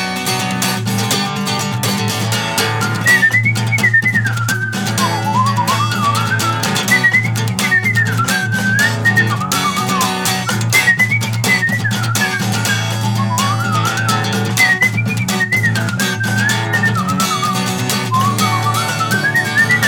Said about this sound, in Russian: Я не могу с такой скоростью свистеть, как у нас Серега играет на баяне